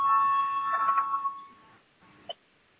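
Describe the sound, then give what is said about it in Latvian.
A bell rings with a steady, bright electronic tone for about a second and a half to call a parliamentary vote on proposal 56, then cuts off into quiet, followed by a brief faint click. “Lūdzu, zvanu, balsosim par 56. Deputāts Papuls priekšlikumu.”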